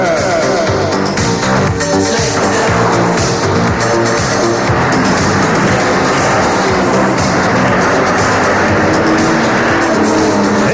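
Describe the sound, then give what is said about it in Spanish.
A racing motorbike engine in the video game Enduro Racer roars and revs loudly and continuously without letup, its pitch climbing and shifting as it accelerates, with a dense, gritty mechanical wash filling the background. “¡No te tires de la máquina porque vamos acelerando y puedes hacerte daño!”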